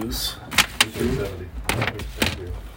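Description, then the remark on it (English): A door being opened, heard as a handful of sharp clicks and knocks spread across a couple of seconds, with faint muffled voices and rustling underneath. “And, are you opening that door?”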